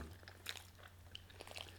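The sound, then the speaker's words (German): One of two dogs sitting with the speakers chews noisily, with wet smacking and crunching bites repeating irregularly over a low steady hum. “Falls ihr euch wundert, wer hier gerade so laut schmatzt, ne? Das ist einer der beiden Hunde, die hier sitzen.”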